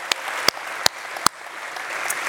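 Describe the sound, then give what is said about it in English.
A church audience at Black Hawk Church applauds returning university students from UW-Madison and Edgewood College in a steady, hissy wash of clapping, with a few sharp, louder claps popping out over the first second or so before the applause continues evenly. “Let's hear for the students that are back.”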